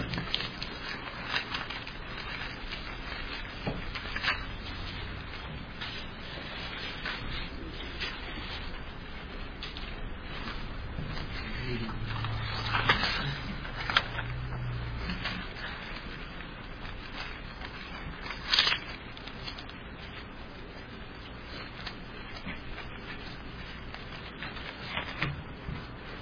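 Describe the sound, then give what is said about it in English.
Thin Bible pages rustle and flip for a long stretch with no talking as someone turns to Hebrews chapter 9, a steady crinkly shuffle broken by a few sharper, louder page turns partway through. “What are pages turning?”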